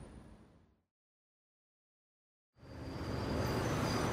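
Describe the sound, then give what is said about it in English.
A bus arrives with a loud engine rumble and road noise; the sound cuts off briefly into silence, then returns stronger and holds steady, with no voices. “That's my bus.”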